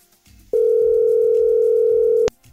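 A single steady telephone dial tone sounds loud and clear for nearly two seconds as a Hungarian radio show calls its listener of the day. It then cuts off abruptly with a short click, over faint background murmur.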